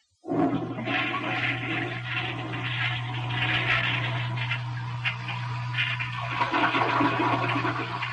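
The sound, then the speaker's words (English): A toilet flushes with a loud, sustained rush and gurgle of water, steady for several seconds over a low constant hum, with no voices. “If you ever flush one of my maps down the toilet again, you'll be selling maps on Sunset Boulevard”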